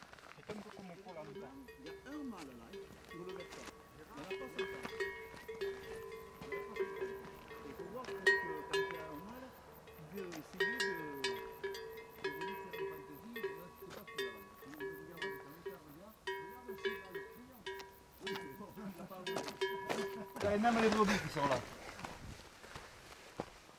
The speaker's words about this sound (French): Et même les brebis qui sont là.